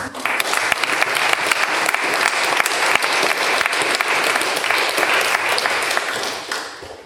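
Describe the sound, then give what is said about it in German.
A crowd at a Sunday church service claps steadily for about seven seconds in thanks for the musical accompaniment, a dense, even wash of many hands that holds loud throughout and tapers off slightly at the very end. No one speaks over it. “Einen großen Applaus von uns.”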